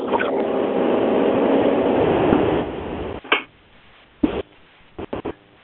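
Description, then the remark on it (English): Steady road rumble and engine drone from a moving car, heard through a narrow phone line, fills the first three seconds, then drops away to a quiet hiss broken by a few short rustling bursts. “Sounds like we have somebody that's driving in a car.”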